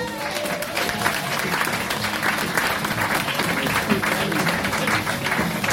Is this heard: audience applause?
yes